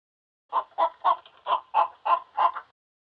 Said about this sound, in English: A hen clucks.